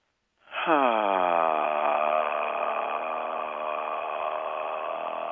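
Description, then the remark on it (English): A soft, breathy sung note on an exhale, made by simply opening the mouth and breathing out with the least possible energy, sliding up briefly at the start and then held steady and relaxed for several seconds, alone with no talking. “And you can find that really easily by simply opening your mouth and breathing out with the least amount of energy possible.”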